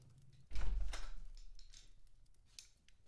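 A door swings shut with a single heavy, booming thud that lingers briefly, followed by a few faint clicks and rattles as it settles. No one speaks.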